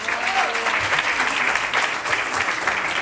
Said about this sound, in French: ce sont des comédiens, mais ce sont aussi des militants d'Attaque, le mouvement Attaque, qui représentait par une certaine partie du public et par certaines de nos invités, Aurélie Trouvé, que je vous demande d'applaudir.